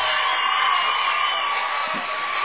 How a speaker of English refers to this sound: Shot up. Oh, a charge called. Listen to the Clay County crowd.